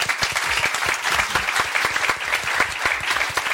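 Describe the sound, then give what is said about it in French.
An audience claps for three show commentators at the end of a debate, a dense, continuous patter of many hands with crisp individual claps popping out, sustained at an even loudness with no voices over it. “On peut applaudir en tout cas nos trois chroniqueurs.”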